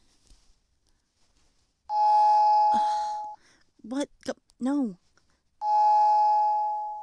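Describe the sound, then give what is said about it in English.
A doorbell rings twice, each a long, steady, buzzing electronic tone lasting over a second, with a brief spoken exchange between the two rings. “I hear you. Fine, I'm coming.”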